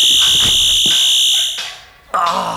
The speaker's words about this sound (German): Falls irgendein mieser Typ nochmal versuchen sollte, mir die Gegenstände zu stehlen, spürt der Sensor die Bewegung und löst den Alarm aus.